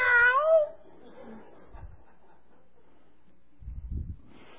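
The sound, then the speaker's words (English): A cat perched on a windowsill right outside a house in the middle of the night lets out one loud, wavering yowl close by, then falls silent, leaving a quiet stretch broken only by a few faint, low thumps. “Last summer, there was a cat in the middle of the night perched up on the windowsill right outside.”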